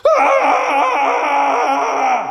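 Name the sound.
man screaming in rage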